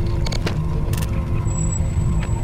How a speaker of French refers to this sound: Les voitures éclaboussent l'eau tombée sur le goudron.